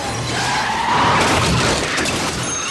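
Tires screech and skid loudly amid dense, roaring car-chase noise from the French thriller film Tell No One, with a burst of smashing, crashing impact in the middle. There is no talking.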